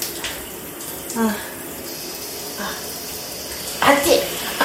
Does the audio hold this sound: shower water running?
yes